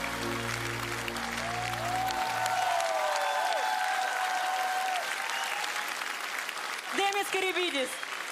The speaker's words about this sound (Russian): Друзья, ваши аплодисменты.